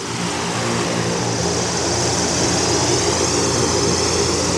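A steady, loud airship engine drone with propeller roar, a broad rushing noise over a low humming rumble that holds constant for several seconds with no voices.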